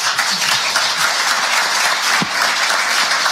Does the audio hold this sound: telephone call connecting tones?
no